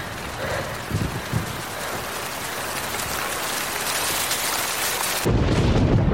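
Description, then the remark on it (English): A steady roar of heavy rain pours down without a break, with low thunder rumbling beneath it and a deeper, louder rumble swelling near the end. “The storm prevents the Irish fleet from sailing.”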